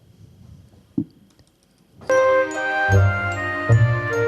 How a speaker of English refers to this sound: Listen to the, there is some reverb at the beginning of the song.